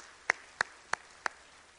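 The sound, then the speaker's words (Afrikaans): Four sharp hand claps at an even, steady pace, each crisp and brief with quiet pauses between, sounding like a single person clapping rather than a full crowd, given for children after an impromptu performance. No voices are heard. “Daar sy gee vir hulle hande klap.”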